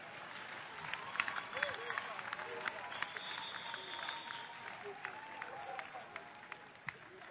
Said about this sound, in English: Clap your hand well.